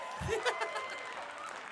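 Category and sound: crowd, audience applause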